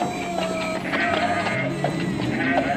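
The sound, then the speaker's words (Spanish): Several sheep bleat over and over in a stable of goats and sheep in Bethlehem at night, their wavering cries overlapping in a steady, fairly loud chorus. “El burro olfateó y les condujo a un establo de cabras y ovejas.”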